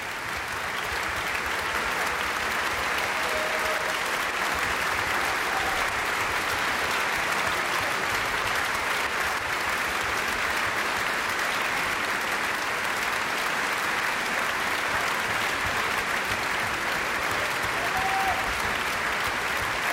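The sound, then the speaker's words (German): Sustained concert audience applause for a concert performance of Capriccio conducted by Christian Thielemann with the Vienna Philharmonic, a dense, steady wash of many hands clapping at even loudness for the full length, with no voices standing out. “Aber Sie hören, es gibt viel Beifall für diesen Capriccio.”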